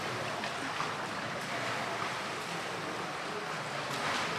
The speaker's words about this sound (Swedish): jag brukar oftast simma så här grodsim. Och jag tänkte att jag skulle simma lite och sen får du säga att vad kan jag göra bättre.